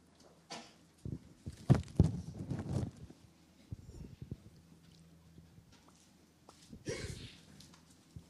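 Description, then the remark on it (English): A sudden, loud sneeze bursts out, surrounded by scattered knocks and shuffling noises, followed later by a softer breathy rush of air. “Bless you.”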